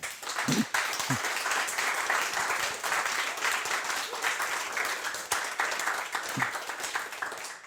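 Sustained applause from a sizable audience welcoming the next speaker to a talk, a dense steady wash of many hands clapping at once for several seconds, with a few faint voices briefly audible underneath.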